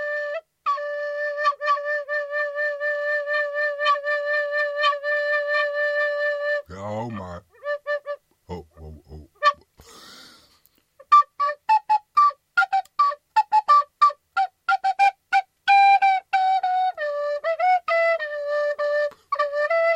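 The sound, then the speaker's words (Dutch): A whistle blown: a long run of loud, steady pulsing blasts, a brief warbling trill, then a series of short, choppy toots of varying pitch. “Ja, ik denk, ga eens een fluitje kopen. Een fluitje van een cent.”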